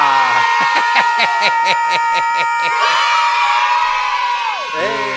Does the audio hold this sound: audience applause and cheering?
yes